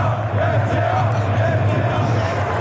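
A large crowd of away football fans chanting in unison in the well-filled away section of the stadium in Wolfsburg, a dense, steady roar of many voices with a low rhythmic drone and no pauses, loud throughout.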